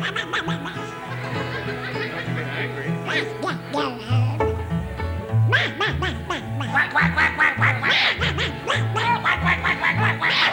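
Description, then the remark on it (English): A person does a nasal, buzzy imitation of a duck, quacking over and over in rapid bursts for about ten seconds, with snickering laughter mixed in. “I'm a lonely duck.”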